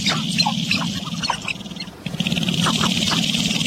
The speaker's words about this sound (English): It's a primeval mating ritual. Wings spread, drumming and stamping their feet, male grouse can do this for hours.